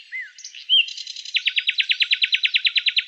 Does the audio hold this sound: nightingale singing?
yes